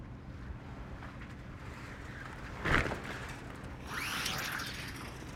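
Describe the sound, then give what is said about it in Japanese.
A sail whips across during a tack as the boat changes direction, swinging all at once to the opposite side: a sharp flap of canvas, then a rushing, fluttering swoosh, all over a steady background of wind and boat rumble. No one speaks. “今ね、方向転換するためにセイルが一気に。”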